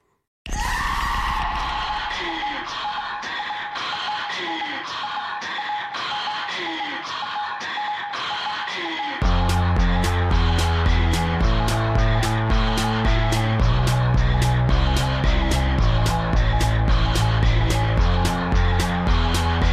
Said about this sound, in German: Da hört man einen Schrei, Atemgeräusche, so komische Quietschgeräusche und alle möglichen elektronischen Klänge. Und alles ist irgendwie präsent im Mix, alles scheint gleich wichtig zu sein.